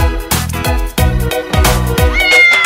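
A voice sings a rhythmic run of imitated cat meows over bright, bouncy music, singing about the cat on the bus, each meow landing on the beat in a loud children's-song style.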